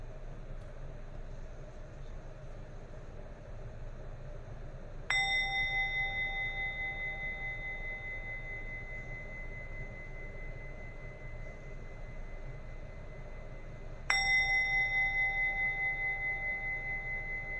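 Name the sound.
bell being rung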